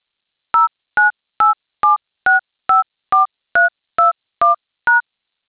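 Eleven short, crisp touch-tone beeps from a telephone keypad, evenly spaced about half a second apart as a registered phone number is entered, starting with the area code, into an automated water delivery ordering line, each a clear two-note tone with silence between.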